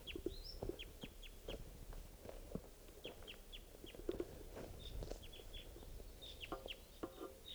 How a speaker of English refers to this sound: The wild bird, type 2, calling from the trees here.